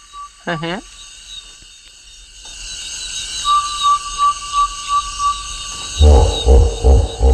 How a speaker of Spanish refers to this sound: Parece que están matando a alguien por ahí, pero es un damán, sin más.